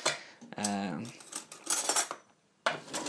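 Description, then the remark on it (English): A spoon clinks and scrapes against a ceramic bowl of cereal with milk in bright, irregular taps, one early strike ringing out briefly, then a short lull before the clinking resumes. “I keep going backwards and forwards between the kitchen because I had to put the milk back in the fridge and then I forgot the spoon, so I'm going back again to have a munch of my cereal.”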